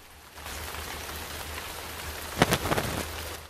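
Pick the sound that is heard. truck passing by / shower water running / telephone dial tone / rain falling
rain falling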